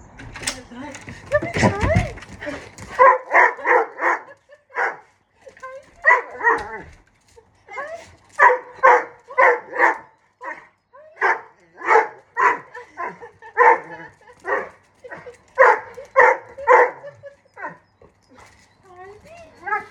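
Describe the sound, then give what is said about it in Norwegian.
A dog named Troll barks excitedly and nonstop as it arrives at the cabin, loud sharp barks coming in quick clusters, with a brief burst of rustling noise just before the barking starts. “Jeg har ikke mye greie på hunder, men en ting er jeg ganske sikker på, at det er at Troll føler masse forventning.”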